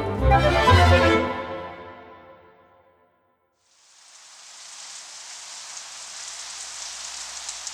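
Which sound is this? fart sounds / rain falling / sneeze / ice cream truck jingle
rain falling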